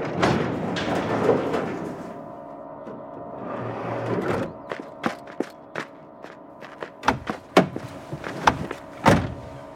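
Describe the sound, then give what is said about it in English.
A car door is worked open and shut amid rustling and shuffling, followed by a string of sharp clicks and thuds, moderately loud, with no talking. “I'll get the door open.”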